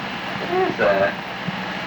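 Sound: airplane passing overhead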